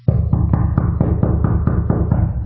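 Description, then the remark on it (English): A rapid, steady run of about ten loud knocks on a studio door in Boise, Idaho, by trick-or-treaters at Halloween, evenly spaced, with no voices. “Is that my door? In the studio here knocking? Somebody's at the door.”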